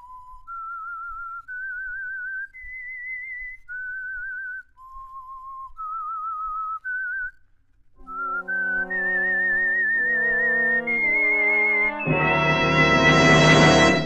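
The eerie whistled theme melody of The Whistler radio program, wavering, vibrato-laden notes rising and falling alone, then sustained orchestral chords swell in beneath it and build to a loud, dense climax. No one speaks.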